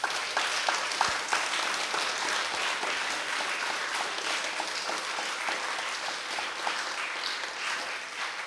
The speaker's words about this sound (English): I want to thank everyone who spoke, and I think that they really deserve a big round of applause, so please.